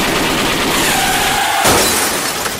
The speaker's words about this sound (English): That's when Hamer and his posse jumped out of the bush and emptied 130 rounds of ammunition into their car.